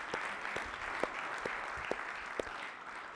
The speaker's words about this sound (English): That is good, somebody. That, God deserves a hand clap on that one.